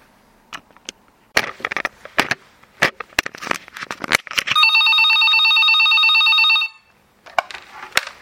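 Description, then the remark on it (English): A telephone in a hotel room rings for an incoming call with one loud, sustained electronic trill lasting about two seconds, preceded and followed by scattered clicks and taps. “Now I'm waiting in my room in the hotel for a very important and possibly quite difficult phone call, which I'm not really looking forward to at all.”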